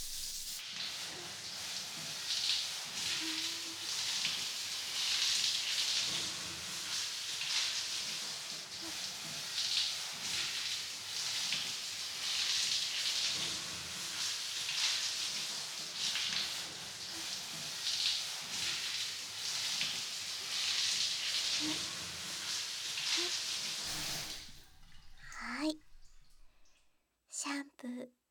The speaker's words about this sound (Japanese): はい、では頭流しますよ。はーい、行きます。